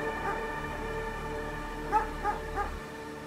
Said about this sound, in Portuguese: E aqueles cachorros latindo, latindo, latindo. Eu falava, meu Deus, protege, porque se você soltar os cachorros vão vir aqui na gente.